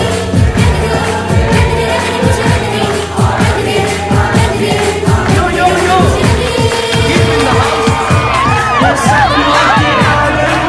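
A loud, lively crowd of guests claps and cheers while dancing in a traditional Indian style at a celebration, as a young girl in a sari sings on a raised platform, with whoops and rhythmic clapping layered over steady music for the whole stretch.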